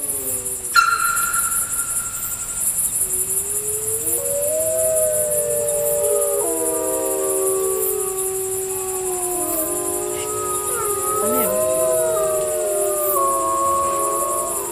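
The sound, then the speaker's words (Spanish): Several wolves howl together in a chorus of long, rising and falling wails that overlap and bend in pitch, steady, over a constant high insect-like drone of crickets at night. “No, no puede faltar el lobo, ¿no?”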